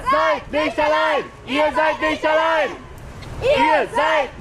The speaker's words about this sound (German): Sie ist das Gesicht der Klimabewegung und als Greta Thunberg am Nachmittag überraschend in Lützerath auftauchte, brandete Jubel bei den verbliebenen Aktivisten auf.